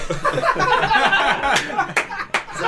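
A handful of sharp, irregular hand claps, about four of them, cut through a background of chuckling and overlapping chatter, growing more prominent toward the end.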